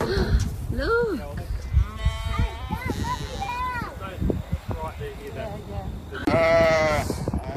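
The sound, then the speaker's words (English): A flock of sheep bleat repeatedly at feeding time and overlap one another, fairly loud, with a long, strong bleat rising near the end. “Oh, sheep! Look!”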